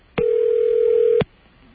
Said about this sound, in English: I'll give it about maybe three more rings and then I'm going to give up.